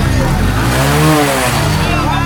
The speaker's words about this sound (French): Au quartier Rimkieta de la ville de Ouagadougou. Sur la voie ralliant le quartier voisin Tuissin, les bruits de motos, de tricycles et de voitures s'entremêlent devant un pont à peine visible, englouti par les eaux de pluie.